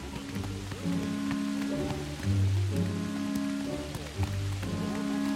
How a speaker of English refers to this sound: As the rain lashes down, they follow the path higher up the mountains, the yellow bellies completely unperturbed by the deluge.